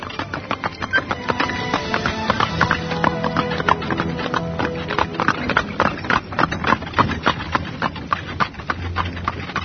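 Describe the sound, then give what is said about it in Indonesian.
Steady clip-clop of horse hooves pulling a cart, a brisk repeated rhythm, with rattling wheels and a low rumble underneath throughout. “Dang Acarya Siwanata duduk di bagian depan sambil menggenggam tali kekang kuda.”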